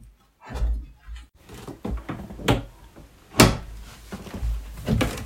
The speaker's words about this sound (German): Warte mal, hier, was haben wir hier? Geht die Tür auf? Ja, geht auf.